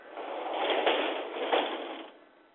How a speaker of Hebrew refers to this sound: בכל אופן, אני הולכת לסגור דלת שלא נשמע את הרעש.